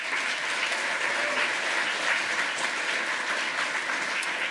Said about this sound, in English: Give a huge round of applause for Mitch and Jimmy talking about the hardware hacking area.